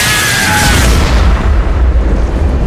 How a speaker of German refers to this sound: Er ist regelrecht explodiert!